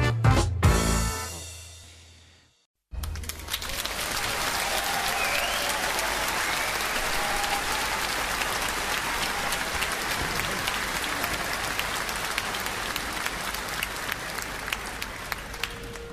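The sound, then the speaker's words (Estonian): A large audience bursts into sustained applause after a brief musical ending and a moment of silence, the clapping dense and steady, continuing strongly to the end, as performers of the 'Sõnum muusikas' music programme come on stage. “Head inimesed, sõnum muusikas on teie ees aplausiga.”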